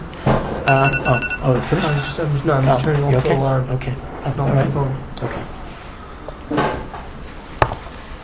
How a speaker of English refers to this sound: Turning off the alarm. Okay. It's not right. My phone.